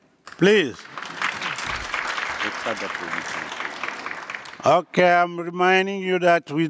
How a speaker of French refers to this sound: Je vous rappelle qu'il n'est pas nécessaire d'applaudir.